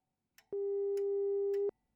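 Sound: telephone ringing tone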